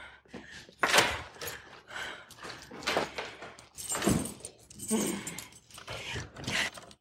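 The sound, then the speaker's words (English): Keys jangle and rattle in several scraping bursts, mixed with clunks as a cash drawer is opened and rummaged for the keys, while muffled voices murmur intermittently underneath. “Open the drawer. I need the keys.”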